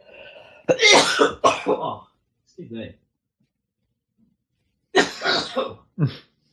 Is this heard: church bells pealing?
no